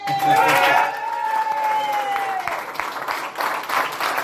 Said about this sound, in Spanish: Estos eran los aplausos en el cuartel general del Partido Popular al conocer que el conjunto burgalés ha conseguido ganar las elecciones europeas en la provincia de Burgos con 65.729 votos, lo que representa el 42% del total,